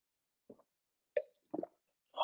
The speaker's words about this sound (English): Oh, loud ass gulp, sorry.